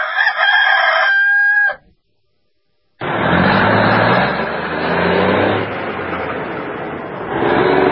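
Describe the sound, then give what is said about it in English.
A single loud rooster crow rings out, cuts to about a second of silence, then a steady, noisy rumble takes over for the rest. “All right, I'll be right back right after we go rooster cruising.”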